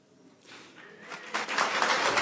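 An audience breaks into applause, starting faint and quickly swelling into dense, steady clapping from many hands by the end.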